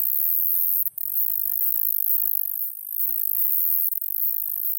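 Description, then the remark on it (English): A continuous, very high-pitched buzz from the call of the fishing reel buzzer, an Australian insect, drones steadily for the whole clip, like a fishing reel spinning out, with a faint low rumble only in the first second and brief dips in the sound. “The fishing reel buzzer.”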